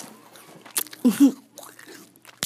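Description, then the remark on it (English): Someone chews an apple right up against the microphone: a few loud, wet crunches and smacking mouth sounds in uneven bursts, very close and with no talking. “That was … leaning up to the microphone with an apple, chewing in his mouth.”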